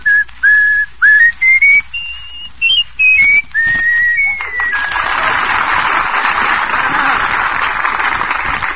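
Someone whistles a clear, bright tune of a popular song as a quiz answer, in a run of short and held notes that step up and down, then loud applause breaks out and carries on.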